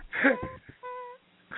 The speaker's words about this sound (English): Is that him breathing heavily? Yeah, it was just, God. Ooh.